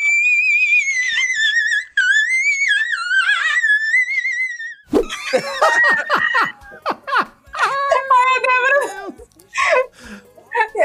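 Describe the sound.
A loud, sustained high-pitched falsetto shriek wavers for several seconds, then breaks off into a quick jumble of squeaky vocal bursts, squeals and laughter-like sounds.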